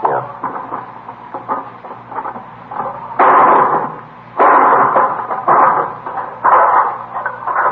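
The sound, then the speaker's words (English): A hammer strikes repeatedly at a lock, a run of quick metallic knocks followed by several louder, grinding bursts of banging and rattling. No one speaks. “Let me give you that hammer. You gonna break the lock?”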